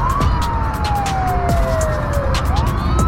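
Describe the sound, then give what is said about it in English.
A police car siren wails continuously, its pitch gliding slowly down and back up over steady, loud traffic rumble, with sharp repeated high-pitched bursts cutting through. “They hear the sirens before the cop car appears in their rearview mirror.”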